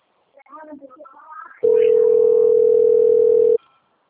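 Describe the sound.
A voice speaks briefly, then a loud, steady telephone dial tone hums at one unchanging low-mid pitch for about two seconds before cutting off abruptly.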